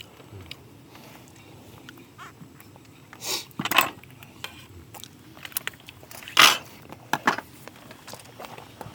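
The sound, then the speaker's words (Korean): Crunchy bites and chewing at breakfast, with a few sharp, bright clinks like cutlery on a plate. Soft ticks and rustles fill the gaps between the louder bursts. No one speaks. “맛있는 아침 식사.”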